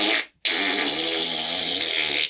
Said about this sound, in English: Fart sound effect.